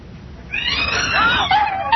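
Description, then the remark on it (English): A startled cat lets out a loud, drawn-out yowl after a brief quiet moment, its pitch wavering and sliding upward, with no talking. “You ever seen the expression on a cat's face when it's startled?”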